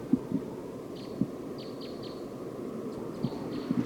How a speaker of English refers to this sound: It's recording the wild bird. It's perched up on the top of this tree. Chittering now. I think there's only one, but I'm not sure.